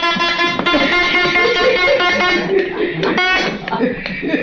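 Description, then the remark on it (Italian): A toy trumpet gives off loud, buzzy, honking blasts almost nonstop while people talk and chuckle underneath. “Ce la lasci questa trombetta”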